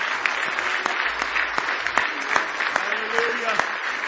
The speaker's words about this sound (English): Oh, give him one more big hand clap of praise if you love him this morning.